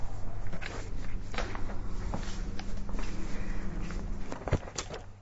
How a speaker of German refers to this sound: Hören Sie das denn nicht? Dass ich das nicht bin. Das sind nicht mal meine Schritte. Das sind Schritte ganz von fern. Diese Schritte enden an diesem Gang. Es beginnen keine neuen. Die neuen Schritte, die dort enden, sind nicht von mir.